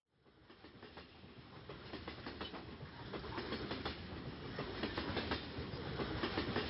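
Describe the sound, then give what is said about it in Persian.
A train rumbles steadily along the rails, its wheels clicking in a repeating clickety-clack rhythm that grows slightly louder, with a broad, continuous low roar underneath and no voices. “من عاشق سفرم، به خصوص سفر با قطار.”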